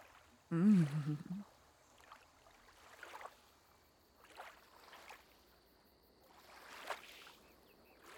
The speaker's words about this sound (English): This is too romantic a setting to be offended. An evening jaunt on a small boat. Both of us kissed by the full moon.